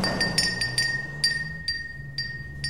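A small door bell jingles with a string of quick, bright metallic strikes, its high ringing tones hanging on between hits over a low, steady hum.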